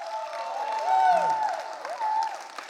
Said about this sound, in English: deserve a lot bigger round of applause than that. Let's please.